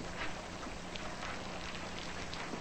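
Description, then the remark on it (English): Steady rain patters against a window, a dense, even hiss dotted with faint scattered taps of individual drops, with no voices. “Jesse stares out a rain-streaked window.”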